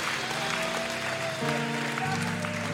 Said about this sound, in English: Why don't we clap our hands unto the Lord right now? All over this building, fill this place with praise.